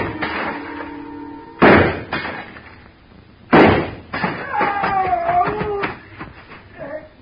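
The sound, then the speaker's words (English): Two sharp, loud gunshots about two seconds apart, fired into a glass showcase a man is standing on, followed by the showcase glass breaking and a scatter of ringing, tinkling shards settling. “I started deliberately shooting his foothold out from under him.”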